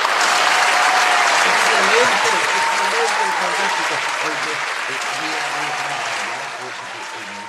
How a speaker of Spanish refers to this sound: Oye, vamos a mandarle unos aplausos a Luz María porque es nuestra auditora que hoy día ha copado con las preguntas.